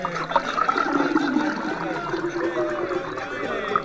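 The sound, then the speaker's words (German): Water pours steadily into large jugs, a continuous splashing, gurgling stream lasting the whole stretch, with faint background voices murmuring underneath. “Nehmt die großen Krüge und füllt sie mit Wasser.”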